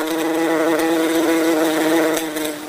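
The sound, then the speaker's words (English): A big bumblebee, drawn to food put out for it, buzzes steadily, its low droning hum wavering slightly in pitch for a few seconds before fading a little at the end. “Put out the food, they'll come buzzing on by. This one's a bumblebee.”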